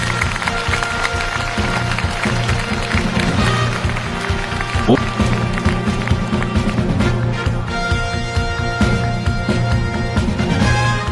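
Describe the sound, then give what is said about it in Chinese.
Loud, sustained audience applause welcoming two speakers, Alibaba Group chairman Jack Ma and Dalian Wanda Group chairman Wang Jianlin, fills the whole stretch, dense clapping blended with steady background music and a murmur of crowd voices, never dropping away. “再次用掌声来欢迎一下两位开讲嘉宾”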